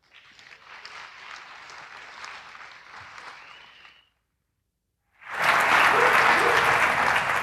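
An audience at EMF claps for Terence Eden's talk The Connected House of Horrors, steadily for about four seconds, falls briefly silent, then a louder, fuller burst of applause erupts and continues to the end, with no talking.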